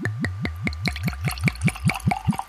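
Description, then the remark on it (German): Wine glugs from a freshly uncorked bottle into a glass, roughly a dozen quick, evenly spaced gulps that climb in pitch as the glass fills, clear with no voices. “So, und jetzt kommt das Plätschergeräusch.”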